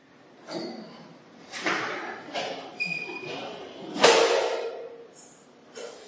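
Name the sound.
door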